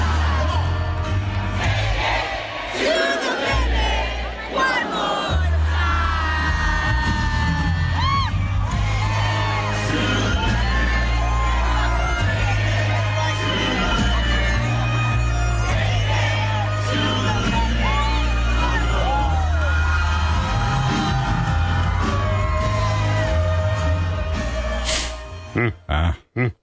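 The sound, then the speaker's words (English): A drunk woman belts out a song in a shrill, strained, off-key screech, loud for nearly half a minute, with a rowdy crowd yelling and whooping behind her. “Nah, she's just drunk. Yeah. It's just her singing voice.”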